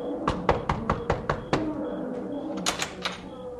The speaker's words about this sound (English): Who knocks?